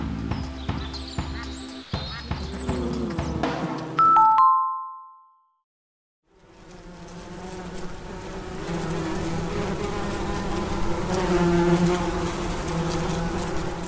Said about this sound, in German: Macht euer Haus auch solche Geräusche? Laut Naturschutzbund Thüringen häufen sich gerade Fragen zum Thema Wespennestern an Häusern.